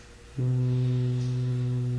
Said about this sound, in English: Like exhale through your nose very slowly with the humming. Is that the same sound as at the end of Aum? Yes. Yeah. That same sound is used in many things.